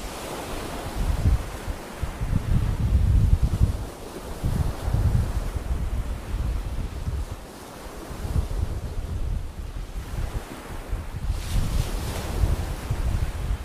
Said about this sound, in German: Wenn man weiß, wo die Wellen ans Ufer von Rügen schlagen, sieht man alles sofort vor dem geistigen Auge.